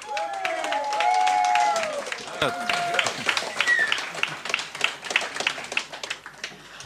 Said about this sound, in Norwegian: Gi en god applaus.